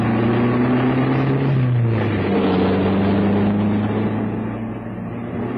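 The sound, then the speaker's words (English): A car engine drones steadily with a broad rumbling road noise underneath, the pitch shifting slightly as it drives along a rough farm road, with no voices. “Now on, we're on the farm road. Bad enough to play like a car, it's going to be quite the drive.”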